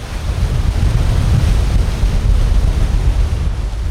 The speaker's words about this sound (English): That's the result of thousands of cubic feet of water rushing out of the reservoir, down into a creek, flowing into the bay. The water's being released to keep the reservoir from overflowing, because this spring, it's been really, really full.